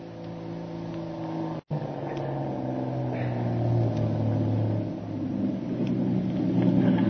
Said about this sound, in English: The motor launch that has picked Kitty up is just warping into the dock in front of Doc Beard's plantation home, and the two Marines prepare to take her into the house.